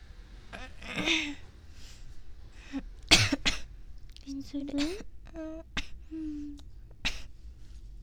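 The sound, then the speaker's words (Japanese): Several short, sharp coughs break out at irregular intervals, close and fairly loud, interspersed with quiet conversational speech between them. “咳出るね。”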